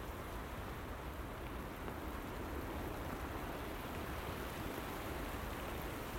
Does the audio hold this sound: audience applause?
no